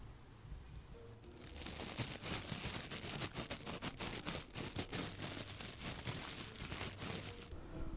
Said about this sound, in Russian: Ну вот знаете, если взять кусочек папиросной бумаги и перебирать ее пальцами прямо над ухом.